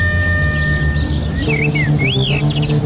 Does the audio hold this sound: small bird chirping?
yes